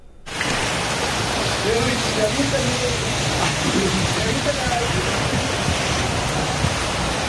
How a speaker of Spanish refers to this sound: Este viernes fue en Puebla capital donde la lluvia dejó así calles convertidas en ríos y con gruesas capas de granizo que parecen incluso como si hubiera nevado.